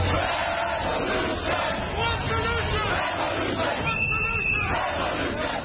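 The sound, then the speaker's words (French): A dense, loud crowd of anti-G20 protesters clashing with police roars and shouts continuously, with overlapping voices and chaotic yelling throughout, and a brief high whistle-like tone cutting through near the end. “des affrontements entre policiers et manifestants hostiles au G20 ont perturbé le programme des dirigeants les plus puissants du monde”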